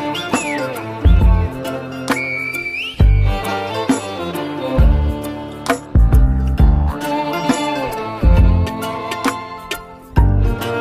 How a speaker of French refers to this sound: Au menu, un mojo piquant qui monte aux yeux, et à nouveau un sifflement pour se dire adieu.